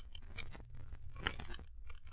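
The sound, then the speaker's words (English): Small metallic clicks and scrapes as Holmes picks the continental lock of a cellar door with instruments, an irregular run of fiddly taps and grinding with a few sharper, brighter ticks, fairly quiet and with no voices. “That is why I brought a few instruments with me, Watson, to force the lock.”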